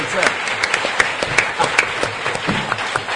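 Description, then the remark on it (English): A round of applause from a crowd for the event's sponsor, Bite Mark: dense, steady clapping with frequent sharper individual claps standing out, sustained at moderate loudness throughout, with some voices faintly mixed in. “So please give Bite Mark a big round of applause.”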